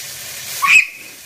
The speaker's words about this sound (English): as she cooks chicken in hot oil. We'll be able to hear she's a little bit nervous. Hot. Yeah. But you don't have to be perfectly precise. Okay, this is really popping up at me.